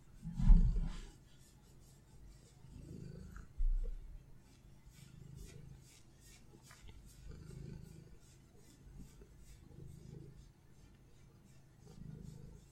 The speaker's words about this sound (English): Let me know if I should start an ASMR channel devoted to her. It'll be purrs 24/7.